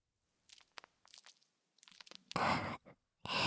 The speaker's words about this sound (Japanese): はいはい、それじゃあ早速早速、こうして泡を集めて、はい、おちんちんを泡にします。